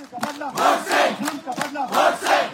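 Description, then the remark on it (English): A crowd rallying for Engineer Rashid during an election campaign chants in unison, loud rhythmic shouted phrases ("We'll avenge jail with our vote") repeating in a steady two-beat cadence, many voices rising and falling together. “That was echoed in the chants of the crowds who rallied for Rashid during the election campaign.”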